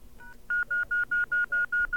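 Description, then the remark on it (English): A rapid run of touch-tone keypad beeps as a beeper number is dialed on a telephone, about eight short even tones in steady rhythm after a brief faint tone, clear with a little background hiss. “I'm going to call my beeper number and see just how long this takes.”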